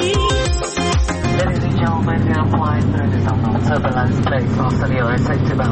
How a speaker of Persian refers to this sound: گفتش که الان میریم تو مرحله تکون و اینا، هواپیما تکون داره، دعا کنین که چیزی نشه، من برم کمربندامو محکم ببندم.